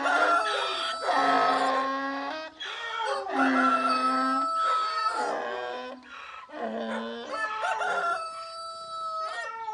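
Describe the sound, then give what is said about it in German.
A rooster crows loudly and repeatedly in a noisy jumble of animal calls from a donkey, a dog and a cat, with barking and howling-like cries overlapping throughout; no one speaks. “Der Esel schrie, der Hund bellte, die Katze miaute und der Hahn krähte.”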